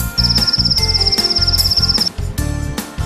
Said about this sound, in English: Cricket.